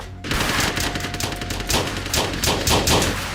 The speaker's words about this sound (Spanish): Cuando entraron en la casa, el traficante abrió fuego contra ellos y se produjo un tiroteo de inmediato.